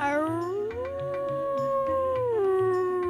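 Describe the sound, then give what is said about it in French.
A wolf, Haroun, gives one long, drawn-out howl from afar near the edge of a wood that swells upward, holds, then slides back down, with a soft low rhythmic pulsing underneath the whole time. “En se baladant à l'orée du bois, Mur entend de loin hurler Haroun, son frère loup.”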